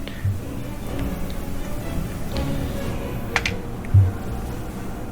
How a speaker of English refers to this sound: I'm rolling 5d6 plus oh, 3.